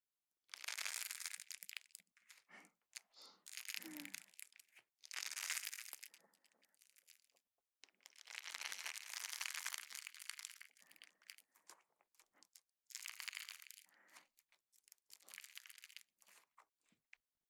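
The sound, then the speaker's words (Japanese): Squishy, crackly squeezing by hand of cold, smooth honey slime filled with lots of sponge, coming in repeated bursts of dense crunching and crinkling with short pauses between each squeeze, fairly loud, with no talking. “冷たくてサラサラのスライムの中にスポンジがいっぱい入ってて、手でギューってするたびに気持ちいい音が漏れてくの。”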